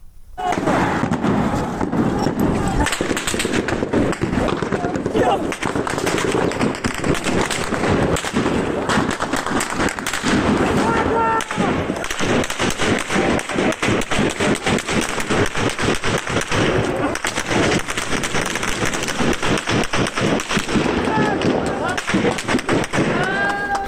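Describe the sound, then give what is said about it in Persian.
Dense, rapid gunfire crackles almost continuously, with sharp bursts and single cracks overlapping, amid a loud, chaotic outdoor crowd with voices shouting throughout, as shots are fired at protesters in Piranshahr. “در پیرانشهر هم ویدیوی نیم ساعت پیش منتشر شد که در اونها کاملا مشخصه که به سمت معترضان تیراندازی داره صورت میگیره و حجم تیراندازی هم بسیار بالا مشهود هست در ویدیو که الان حالا صداش هم میتونیم بشنویم.”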